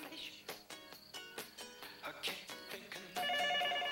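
A cordless phone rings in a bedroom with a rapid, warbling electronic trill of repeated pulses, ending in a steadier, sustained tone. It is fairly loud, with no talking.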